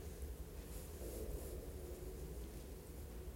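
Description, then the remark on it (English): A steady, low hum from a room heating system runs throughout, faint and unbroken, with a soft airy hiss layered over a deeper rumble and no voices. “Hum of the heating.”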